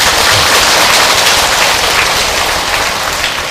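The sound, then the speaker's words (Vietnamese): A crowd bursts into loud, sustained applause, a dense crackle of many hands clapping that holds steady for several seconds with no voices over it. “Cho một tràng vỗ tay quý vị.”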